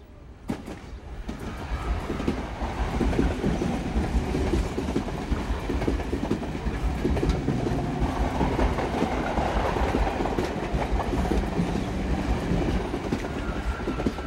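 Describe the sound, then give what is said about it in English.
A train rushes past on the tracks of a harbour line in Bombay on a hazy summer afternoon, a loud sustained roar of wheels rattling and clacking on the rails, building quickly and staying intense throughout, with no voices. “Four seconds later, the train's upon us, out of nowhere, like a sudden monsoon downpour, quite literally come and then gone in a flash.”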